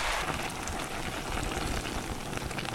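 Half a litre of Styrian dark beer poured into a pot, a steady, even fizzing and splashing hiss of foaming liquid that runs unbroken for the whole few seconds, with no voices.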